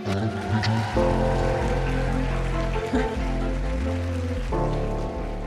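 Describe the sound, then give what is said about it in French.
A crowd claps steadily throughout, the dense patter of applause running beneath loud band music with sustained chords and shifting bass notes. “Mesdames et messieurs, veuillez fabriquer, non pas du tout, un tonnerre d'applaudissements”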